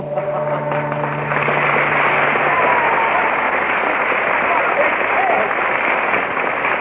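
A studio audience applauds in a steady, dense wash of clapping that holds at an even, loud level for about seven seconds, with a low electrical hum underneath at the start.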